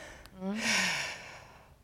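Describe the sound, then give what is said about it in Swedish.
A single deep, breathy inhale lasting about a second, taken as part of a breathing exercise, with a brief voiced hum at its start, fading out into quiet room noise. “Nu andas jag in då.”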